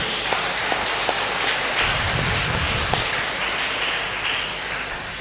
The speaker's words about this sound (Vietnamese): Xin cảm ơn giáo họ Đa Minh một lần nữa. Chúng ta cảm ơn và chúc mừng giáo họ bằng một tràng vỗ tay thật lớn.